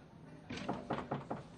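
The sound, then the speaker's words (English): A room door thuds shut, followed at once by four quick, evenly spaced knocks on it, fairly loud, with no voices. “have you forgotten that this room has a door?”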